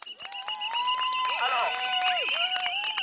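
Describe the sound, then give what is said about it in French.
An audience applauds with dense, steady clapping throughout, mixed with rising and falling whistles or cheering voices over the top. “Ces applaudissements ne seront que de courte durée car, comme Pénélope, vous le savez, on va remettre l'ouvrage sur le métier et dès la semaine prochaine, vendredi, il y a encore un appel à une journée école morte au Blanc-Ménil.”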